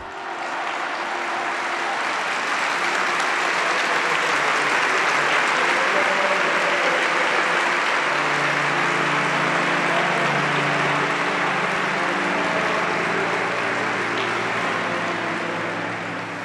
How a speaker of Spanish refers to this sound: Un largo, intenso, agradecido y conmovido aplauso selló el miércoles de ceniza del Año de la Fe que celebró Benedicto XVI en la Basílica Vaticana, acompañado por numerosos cardenales, obispos, religiosos y religiosas, así como fieles romanos